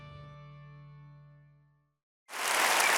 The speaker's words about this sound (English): It's funny, because for many of us, that was a very nice, pleasant applause. And that's great, because I understand that we are in a certain church setting.